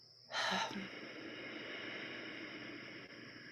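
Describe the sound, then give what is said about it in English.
A quick, sharp intake of breath through the nose with lips closed, followed by a long, steady, breathy exhale through a slightly narrowed throat with a soft rushing, ocean-like hiss, fairly quiet, with no talking, done as a breathing exercise. “Maybe you captured a little bit of that ocean sound in your mouth as you exhaled.”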